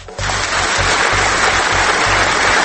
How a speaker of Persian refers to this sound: احمدی نژاد که دید خب دارن تشویقش میکنن